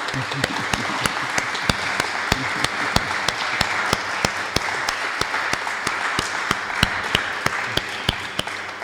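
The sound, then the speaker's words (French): An audience in the wedding hall of the commune of Saint-Gilles applauds the municipal college of aldermen steadily for about nine seconds, a dense wash of many hands clapping with sharper individual claps standing out in a fairly even rhythm. “Alors même si Monsieur le bourgmestre n'est pas là, je voudrais quand même qu'on puisse applaudir le collège échevinal tout entier qui nous permet d'être ici.”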